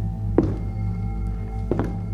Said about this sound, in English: We started across the living room towards the door when footsteps came from the kitchen.